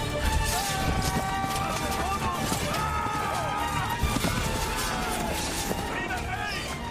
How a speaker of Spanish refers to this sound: pero antes vamos a escuchar ese momento de la batalla. Me colé en la batalla. No me digas. Le acerqué el micrófono a Felipe IV. Estaba en su caballo y dirigía así a sus tropas en la frontera de Portugal.